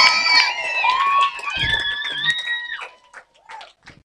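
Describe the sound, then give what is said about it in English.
A church audience on its feet shouts and cheers in loud, high overlapping whoops, with scattered claps cutting through, welcoming their pastor, Reverend E.K. The noise thins toward the end, leaving a few sharp claps and calls. “So if you are ready for the word of God, and if you are ready for your pastor and my pastor, be on your feet, shout, clap, and let's welcome Reverend E.K.”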